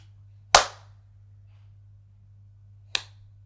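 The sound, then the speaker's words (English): Two sharp, smacking slaps across the face ring out a couple of seconds apart, the first louder and fuller than the second, with only a low steady hum between them and no talking. “You will thank me for every slap I give you.”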